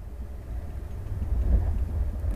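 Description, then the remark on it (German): A steady, deep rumble of a night train rolling along the tracks in the dark after a stop in Bremen, continuous, with faint rattling in the mids and no voices. “Der Zug hat in Bremen nochmal angehalten und ein paar Fahrgäste aufgenommen und fährt jetzt in die Nacht hinein.”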